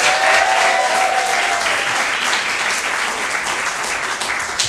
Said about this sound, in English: Round of applause if you think that the pro side won.